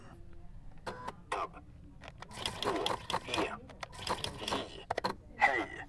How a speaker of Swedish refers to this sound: Och den kan läsa hela rader också. Så det är, man kan säga att det är som en dator fast det är som en punktmaskin. Så att om jag skriver hej till exempel, ska vi se.